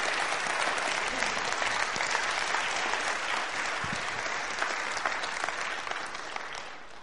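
Sustained applause from a large group fills the room, a dense steady patter of many hands clapping at once that holds for several seconds before beginning to taper off.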